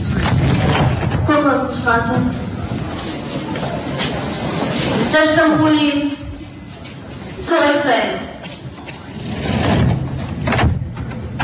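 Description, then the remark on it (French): Steady, loud rumble inside a moving Berlin subway train on a Saturday morning, coming from the east of the city, with a voice making a short door announcement ("Zurückbleiben") over the noise in several brief bursts. “Regardez, c'est un samedi matin dans le métro qui vient de l'Est, le vrai.”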